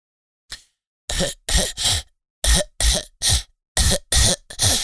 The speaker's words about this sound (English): I have to cough.